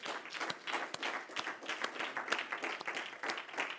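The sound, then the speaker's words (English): A church audience applauds steadily as a hand clap of praise to God, many hands clapping in a dense, continuous patter with a few sharper individual claps standing out, no voices breaking through. “I think we ought to give Him a hand clap of praise.”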